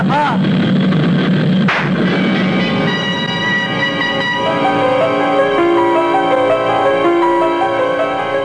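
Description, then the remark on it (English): A single sharp gunshot, a man shot in the head, cracks out early. It cuts through the loud, steady droning roar of a plane's engines, which hums on without pause afterward. “I tried to jerk my head away frantically at the last moment, but I could feel the bullet smash into my skull and then burst in a fountain of searing sparks.”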